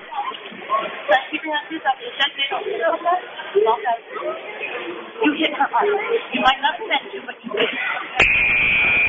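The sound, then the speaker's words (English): A loud, steady game buzzer blares at the very end, sustained for about a second, marking the start of the fourth quarter of a game between the Eagles and the rookies, with the score 32-33, cutting in over a murmuring crowd with scattered voices and chatter throughout. “All right, that buzzer will shoot your boots, ladies.”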